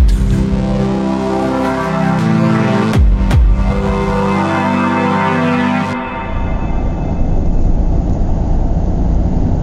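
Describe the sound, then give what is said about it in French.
A short, cheesy radio jingle of layered synth tones with a quick swoosh in the middle, ending abruptly and giving way to a steady low car engine rumble. “Bon, allez, on arrête de papoter et on va écouter tout de suite la chronique après une virgule pourrie.”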